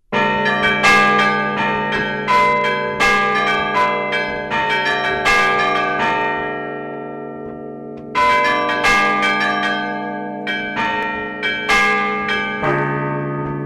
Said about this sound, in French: Alors pour se mettre un petit peu dans l'ambiance et avant d'entendre le samedi le carillon de Saint-Pierre des Chartreux, je vous propose d'écouter le carillon du Grand Or et plus particulièrement la sonnerie propre au temps pascal.